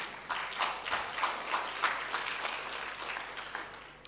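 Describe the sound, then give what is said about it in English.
An audience applauds steadily for about four seconds, a dense, even patter of many hands clapping at moderate volume with no voices rising above it. “I need more than clap.”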